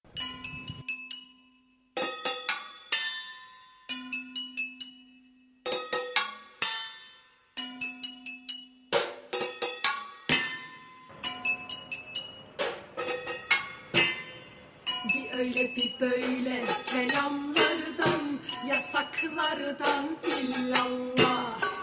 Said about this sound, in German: Wir machen zunächst weiter mit etwas Musik aus Istanbul. Aus Protest gegen die autoritäre Regierung schlagen die Leute Pfannen und Töpfe gegeneinander, Gläser und Löffel, und davon ist auch eine Musik entstanden.